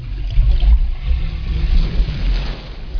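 Water drains away in a loud, steady churning rush with a deep rumbling undertone, continuous for the whole stretch, with no voices.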